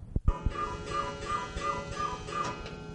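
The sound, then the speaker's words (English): An old Swiss cuckoo clock ticks with a few sharp clicks, then strikes supper time in a steady, resonant striking with evenly spaced pulses. It is clear, with no voices. “So with Grandpa's faithful old Swiss cuckoo clock striking supper time, we'll close our little presentation.”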